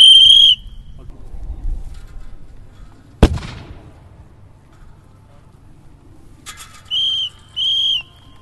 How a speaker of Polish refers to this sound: żołnierze granatem ćwiczebnym przy wykorzystaniu ładunku dym-błysk i zapalnika ćwiczebnego